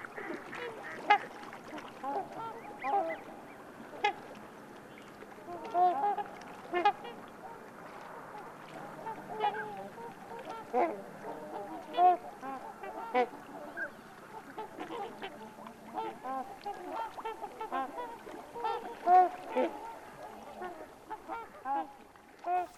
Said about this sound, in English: That's the sound of trumpeter swans in the Yukon.